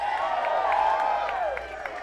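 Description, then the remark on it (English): An audience cheers and whoops loudly, voices rising and sliding, while scattered hand claps pop through at irregular moments, lively. “So give yourselves a big round of applause.”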